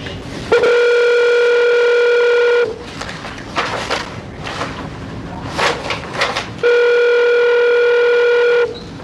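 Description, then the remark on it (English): A phone call to a parole officer, placed during an Arizona Board of Executive Clemency hearing, rings out with two long, steady electronic ringback tones, each lasting about two seconds, separated by a roughly four-second pause filled with faint line noise. “I do need to make one more phone call to your parole officer.”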